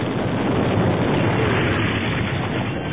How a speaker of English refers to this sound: Suddenly, a titanic explosion shredded both the hover scout and the repulsor lip containing the cores. Shrapnel sprayed throughout the loading dock area.